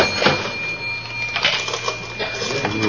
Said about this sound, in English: let's go through the cash register.